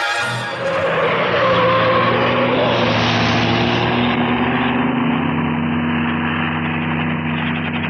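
A car engine runs steadily throughout, a loud, continuous low drone with a slight rise in pitch early on, then settling into an even rumble. No one speaks.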